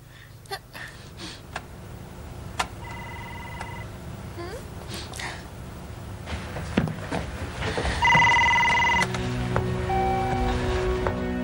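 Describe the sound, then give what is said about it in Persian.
A telephone belonging to a visiting uncle rings in two separate bursts, each a steady, bright electronic trill, against background rustling and faint indistinct voices. “الو. الو، تو کی هستی؟ من … هستم. تلفن مال کیه؟”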